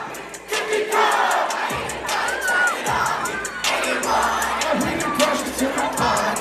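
A large crowd of young voices shouts and sings along to a pop song, loud and continuous, with the music's beat and melody underneath the collective chanting and occasional whoops.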